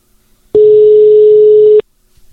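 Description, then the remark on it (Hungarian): A single steady electronic ringback tone sounds for about a second, loud and clear on an otherwise quiet line, the tone a caller hears while the phone rings on the other end, as GP Shop calls a winner of its prize giveaway. “Jöjjön az első versenyzőnk, akiket föl fogunk hívni”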